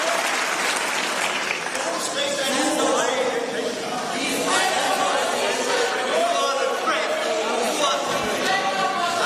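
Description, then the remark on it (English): Many voices shout at once in a parliament chamber, a loud, steady, dense roar of overlapping yells and clapping-like noise that holds for about nine seconds without a break. “That shouting has become a little bit of a tradition.”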